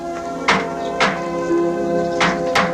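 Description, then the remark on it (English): Four sharp knocks on the door of a manor house, two at a time with a pause between pairs, clear over a soft, steady musical hum. “As Martha goes to answer the door, Panthea follows.”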